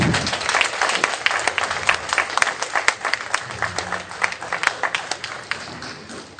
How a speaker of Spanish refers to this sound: Un aplauso para él. Aplauso.